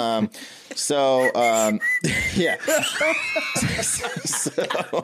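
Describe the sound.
A person whistles short, sliding tones amid lively voices and chuckling; the whistles are clear and fairly loud, mixing with bursts of laughter and background commotion.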